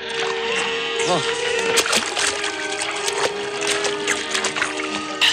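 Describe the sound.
A man plunges his head into a water trough at an oasis, with continuous splashing and sloshing and a few sharper splashes, while voices murmur in the background.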